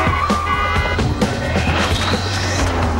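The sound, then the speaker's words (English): A car brakes hard during a street chase, letting a pursuing car speed past, with a rising tire squeal over a loud, rumbling engine and clattering street noise, continuous for a few seconds. “Jack slams on the brakes and the Jaguar speeds past him.”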